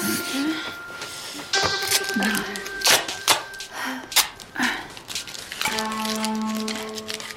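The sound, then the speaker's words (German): Adhesive tape crackles and rips in a series of uneven tearing bursts as it is used to tape down a device's base and cable, followed by softer sticking and pressing sounds, over a steady faint tonal hum in the background. “Wir sollten das nochmal festtapen. Hast du vielleicht ein Klebeband dabei?”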